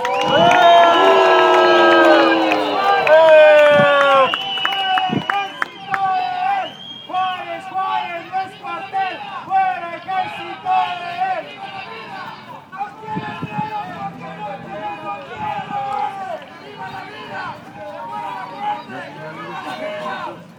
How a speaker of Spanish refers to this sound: ¡Venga un grito para espantar la muerte de Ciudad Juárez!